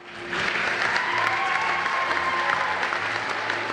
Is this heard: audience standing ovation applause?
yes